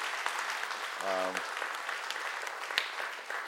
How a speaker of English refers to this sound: So let's give them a God bless you hand clap offering.